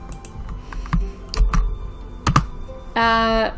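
Irregular clicking of keys on a computer keyboard, a few quick taps separated by short pauses, followed by a brief buzzy electronic tone at the end. No one speaks.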